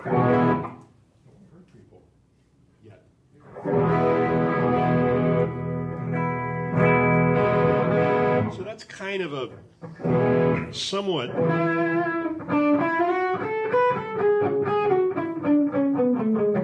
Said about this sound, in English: that's a kind of a musical distortion.